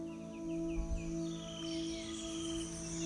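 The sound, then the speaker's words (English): Rainforest jungle ambience: a steady, layered drone of buzzing insects and crickets, with a quick series of repeated high bird chirps early on and fainter calls drifting through. No one speaks. “The sounds of the jungle all around you.”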